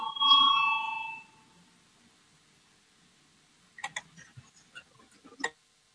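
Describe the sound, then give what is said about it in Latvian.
A single bright parliament voting bell, rung before a vote on a finance minister's proposal, rings clearly for about a second and fades, followed by a quiet pause and then a scattering of soft clicks and taps. “Lūdzu zvanu, balsosim par 26. Finanšu ministra Reira priekšlikumu.”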